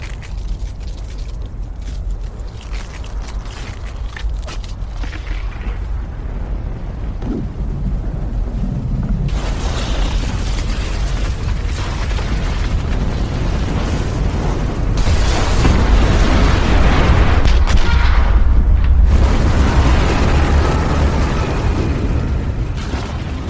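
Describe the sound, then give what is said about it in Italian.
A deep, continuous roaring rumble that swells steadily louder over about twenty seconds, with crackling bursts layered on top: an avalanche thundering down a mountain at night toward an aircraft fuselage sheltering survivors. No voices are heard. “E poi, un rumore simile a centinaia e centinaia di cavalli al galoppo sembra discendere la montagna a tutta velocità verso di loro.”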